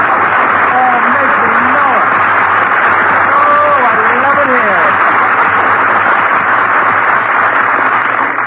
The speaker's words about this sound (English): How do you like an entrance like that? Phil. What? Phil, how in the world can you walk out on the stage like that and ask an audience to applaud you?